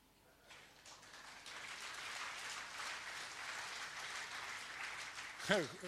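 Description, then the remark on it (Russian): Steady, moderately loud clapping fills about five seconds, a dense crackle of hand claps without pauses, before a voice briefly cuts in at the very end. “Хлопает тот, кого уже доставали.”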